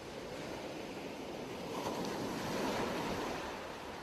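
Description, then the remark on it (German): Waves roll steadily onto a sea shore on a sunny day, a broad continuous wash of surf with a soft hiss, swelling slightly near the end. Some wind noise mixes in, and no one speaks. “Die heranrollenden Wellen, die mit einem kleinen Zischlaut am Ufer auslaufen, wirken sehr beruhigend auf dich.”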